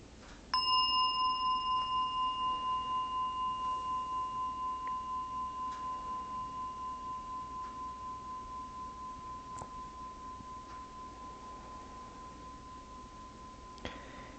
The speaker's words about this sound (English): And you don't need to do anything, just listen to the sound of the bell. You can allow the sound to come to you.